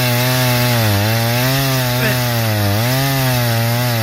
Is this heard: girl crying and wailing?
no